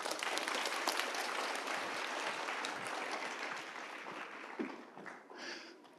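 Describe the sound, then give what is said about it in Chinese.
An audience claps steadily, a dense wash of many hands that holds its level for several seconds before thinning and tapering off toward the end, with no talking over it. “给他们拍拍手 ，Come on。”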